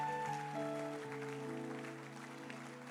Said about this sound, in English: Let's give Jesus a big hand of praise. You can make it bigger and louder. Hallelujah. Let's make it bigger and louder, please, for Jesus.